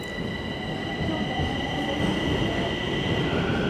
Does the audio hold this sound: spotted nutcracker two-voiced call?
no